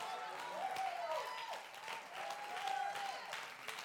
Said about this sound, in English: We can't help but clap our hands.